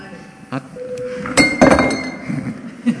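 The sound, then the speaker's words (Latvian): A chairman's bell rings in a parliament session before a vote on a proposal, in several bright, metallic strikes, with short sustained tones lingering between them, over a low murmur of voices and background chatter. “Lūdzu zvanu.”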